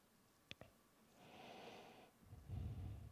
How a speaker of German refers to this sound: Also das ist irgendwie so, langsam wird das zur Krankheit, dass ich mir immer die Nase putzen muss, wenn ich hier vorne stehe.